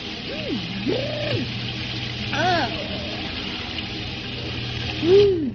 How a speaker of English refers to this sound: Now, take a nice cold shower and hurry.